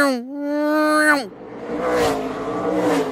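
A NASCAR V8 race car, run constantly at 9,000 RPM and going about 180 miles an hour, roars past at high revs, its steady howl dropping sharply in pitch as it goes by, then fading into a broad, rushing track noise.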